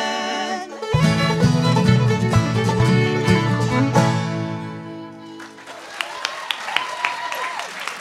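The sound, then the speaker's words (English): A sustained musical chord fades out, and an audience breaks into steady applause, many hands clapping together at moderate volume for the last few seconds. “You clap like there are many of you out there.”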